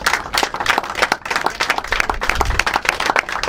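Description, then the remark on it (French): Steady audience applause for the minister in Lourdes, France, thanking him, a dense patter of many hands clapping at a fairly loud, even level throughout, with no break and only faint traces of voices underneath. “Et on peut vous remercier et vous applaudir chaleureusement.”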